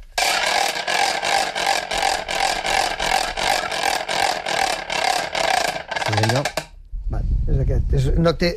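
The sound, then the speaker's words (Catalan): A fairly large wooden ratchet rattle (carraca, an idiophone) is swung hard, producing a loud, rapid, dry clattering in steady pulses for several seconds before it stops and a person begins speaking. “Això és una carraca, una carrau. En aquest cas és una mica grossota, i amb això s'ha de vigilar una mica, perquè quan fas voltar no et donguis un cop al cap.”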